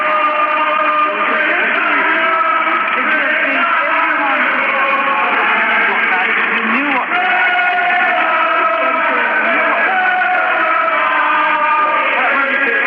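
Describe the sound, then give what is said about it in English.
A large, rowdy but friendly outdoor crowd at 10 Downing Street in London at night, awaiting the Prime Minister's return, sings and cheers together in a loud, continuous swell of many voices, holding sustained notes throughout, with a thin, band-limited broadcast quality. “There was a rowdy but friendly crowd awaiting Prime Minister Thatcher as she returned to 10 Downing Street tonight. They cheered and they sang.”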